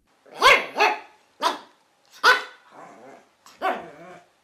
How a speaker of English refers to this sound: Yes, that's right, it's a dog.